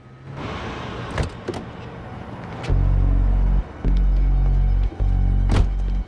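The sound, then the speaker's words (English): A car pulls up by the roadside outside a shop, its low engine rumble swelling and cutting out in steady stretches, while a few sharp clicks and a thunk mark a door being opened as the driver gets out of the car. “Outside the shop, Ben pulls up by the roadside.”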